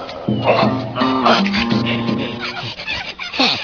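Two dogs fight, snarling and growling in a continuous scuffle, with rough guttural rumbles and sharp yelping bursts overlapping for several seconds at a loud, steady level.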